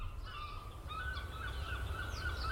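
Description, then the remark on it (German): Seagulls call repeatedly under a grey sky, their cries overlapping in drawn-out wails above a steady, loud low rumble like wind or surf. No one speaks. “Am grauen Himmel schweben Möwen.”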